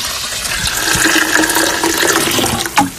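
Filtered fermented liquid, 5-10% of the can, pours steadily into a watering can for watering plants, a continuous splashing gush with a hollow ringing tone, ending in a brief louder slosh just before it stops.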